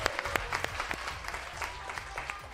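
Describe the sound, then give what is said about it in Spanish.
An audience claps steadily for a couple of seconds to welcome a teacher, a dense patter of many hands with sharp individual claps popping out, and a faint murmur underneath. “Sí, podéis aplaudirla, ¿eh?”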